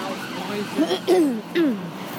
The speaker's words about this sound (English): There's something coming, what is it? Police cars? Ambulance. Oh. Where's the ambulance?